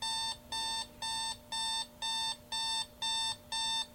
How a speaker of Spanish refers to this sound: Son las 6:45 de la mañana. La alarma suena como de costumbre.